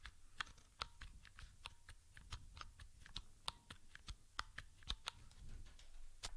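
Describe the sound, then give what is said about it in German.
Clicking of keys being pressed on braille keyboards, the Hable One and then the Mikey, at least two keys at a time, a quick irregular run of sharp taps over about six seconds, with no one talking. “Da drücke ich jetzt auch immer mindestens zwei Tasten. Und noch einmal zum Schluss das Mikey.”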